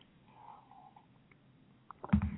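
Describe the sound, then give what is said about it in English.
A quiet gulp of cough syrup being drunk, soft wet mouth sounds giving way to a brief louder swallow at the very end, with no talking. “That's a refreshing little beverage little cough syrup I'm taking there.”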